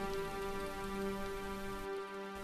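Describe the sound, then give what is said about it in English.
A steady, soft wash of ocean waves hisses beneath sustained, calm music in a relaxation recording, with no clear individual wave crashes and no voices. “Maybe you want to keep your eyes closed and listen to the music and the waves.”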